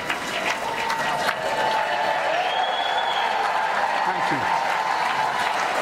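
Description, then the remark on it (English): Sustained applause fills a large legislative chamber as the President of the United States approaches the dais, a dense, steady roar of many hands clapping without a break, with scattered voices and cheers mixed into the crowd noise. “So the president is getting closer to the dais. The applause is not”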